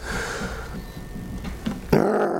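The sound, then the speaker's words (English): A voice imitates a growl: a low, rough, pulsing rumble for about two seconds, ending in a sudden harsh, louder snarl. “Growling, snapping, snarling.”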